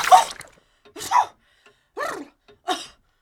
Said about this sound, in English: Ah, that's better. Well, it would appear I don't want to become a suffragette at all. I just needed a good sneeze.